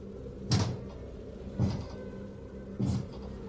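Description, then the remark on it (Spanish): A heavy object slides and shifts on a stretcher in the back of a vehicle stopped at a traffic light at night, in three brief, dull scraping thumps about a second apart, set against a steady low rumbling hum. “Un deslizamiento, como si algo pesado hubiera girado apenas.”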